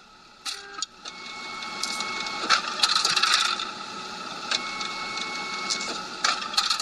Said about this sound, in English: What you're hearing is the sound of an RP30 Kodak professional printer spitting out hundreds of Santa Claus pictures. The sound is the conveyor belt that pushes the photos onto trays, the trays filling up and rotating to accept more photos.